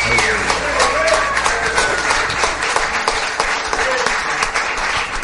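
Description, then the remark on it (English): An audience claps steadily and loudly while voices cheer and shout over it, giving a cheer for the Lord, a dense wash of applause holding at a constant level for about five seconds. “Give the Lord a cheer.”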